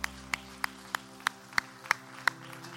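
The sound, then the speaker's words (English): An audience claps together in a steady, even rhythm, applauding to the Lord in praise, about eight sharp claps over a few seconds, fairly quiet, with a low constant hum underneath and no talking. “Everybody who believes that, begin to applaud to the Lord.”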